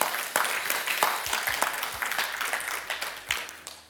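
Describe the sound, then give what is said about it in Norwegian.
A crowd at a worship gathering applauds the worship leaders and worship team steadily for several seconds, a dense, continuous wash of many hands clapping at moderate volume, with a few sharper claps standing out. “Vi kan gi dem en applaus.”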